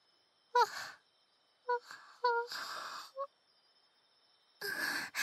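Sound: yawn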